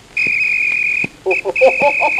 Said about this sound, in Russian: И вот пред вами тот исторический свисток.